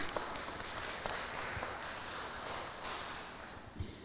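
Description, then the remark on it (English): A crowd applauds steadily for about four seconds, a dense wash of many overlapping hand claps at moderate volume that neither builds nor fades, with no voices over it. “Oh, round of applause.”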